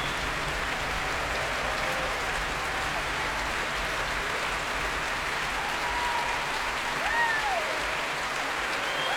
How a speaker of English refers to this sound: And here he is back on stage now with Valery Gergiev. So the huge acclaim of the crowd here at the Royal Albert Hall.